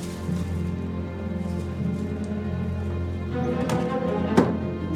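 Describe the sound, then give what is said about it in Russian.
Several light knocks on wooden desk drawers, irregular, rise out of a low steady hum, ending with one sharper, louder rap. A man in an apartment is tapping the drawers and finds a hidden cache. No one speaks. “Гоцман простукивает ящики и находит тайник.”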